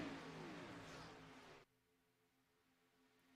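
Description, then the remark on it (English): A loud race car engine roar sweeps past at speed with a falling pitch, then cuts off sharply, leaving a quieter engine hum. “See the flyby, see the speed of these cars.”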